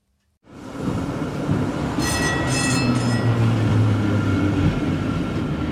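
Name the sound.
tram riding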